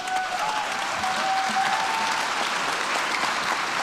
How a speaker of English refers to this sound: And then there are the adults cheering her on as she says to them, "You've stolen my dreams. How dare you do that?"